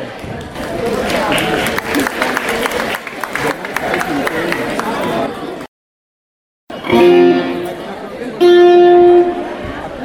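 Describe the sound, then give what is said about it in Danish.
A crowd claps loudly and steadily with cheering mixed in for about five seconds, welcoming performers who are about to begin, then the sound cuts out briefly before voices and tonal sounds take over. “Og så skal de lige have en ordentlig bifald til at komme godt i gang på.”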